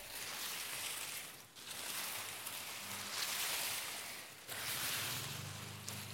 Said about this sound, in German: Wenn ihr das so ein bisschen hört, wir streichen gerade mit den Händen durch das Gras. Und es sieht total schön aus und es hat was.